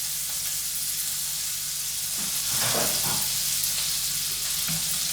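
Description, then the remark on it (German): Butter sizzles steadily in a hot frying pan, a constant crackling hiss with a brief swell of bubbling in the middle, no voices. “Nee, Butter bitte. In die Pfanne.”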